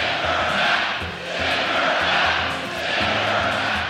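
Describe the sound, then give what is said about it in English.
A large crowd at a Trump rally in Greenville, North Carolina, chants in unison on a Wednesday night, loud and continuous, the rhythmic swells rising and falling roughly every second and a half with no single voice standing out. “Wednesday night at a Trump rally in Greenville, North Carolina, the crowd responded.”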